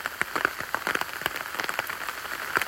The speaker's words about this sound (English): It really is getting heavy with that hail now. As I look in front of me, there's just a mist, which is just stair rods of hail and rain and general precipitation.